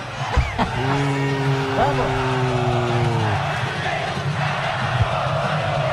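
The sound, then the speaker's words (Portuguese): A stadium crowd boos the Santos team, including Neymar, as they warm up on the pitch before a Copa do Brasil match between Coritiba and Santos. A long, low, droning jeer swells for a few seconds over a constant roar of crowd noise, then fades back into the general din. “Santos em campo pro trabalho de aquecimento, debaixo de vaias aí, o Neymar é ídolo, mas na hora do jogo isso fica de lado, né?”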